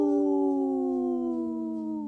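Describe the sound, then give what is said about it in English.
A person imitates a wolf howl, holding one long, steady tonal note that slowly slides lower in pitch over about two seconds, with no talking. “The howl called my dog over here, so she's ready to join the pack.”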